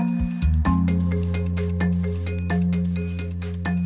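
desk telephone ringing

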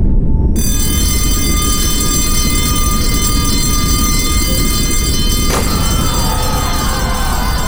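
school alarm ringing

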